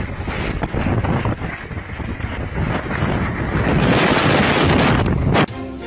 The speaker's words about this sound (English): So it was like a sunny day too. It was crazy. Crazy wind.